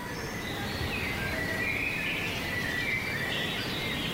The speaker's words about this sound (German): Und auch wirklich diese Stille und der Bach, der plätschert, die Vögel, die pfeifen, die Leute, die ihre Anliegen bringen und auch Gastfreundschaft, die wir stark pflegen.